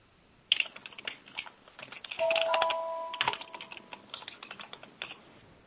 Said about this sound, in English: So several people are typing.